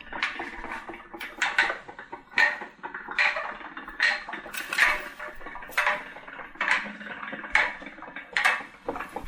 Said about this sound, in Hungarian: Régi könyvnek a szakadozott papír éleit akarjuk levágni, és indul a vágógép.